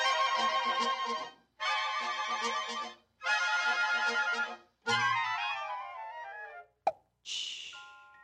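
A bubbly dance band tune plays in three bright bursts, slides down in a descending glissando, then a single sharp champagne cork pop rings out before a sustained chord.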